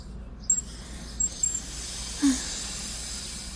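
A brief, soft spray hiss bursts out once as a man hanging his head out of a car window is sprayed, over a steady low outdoor rumble, with a few faint high chirps scattered before it.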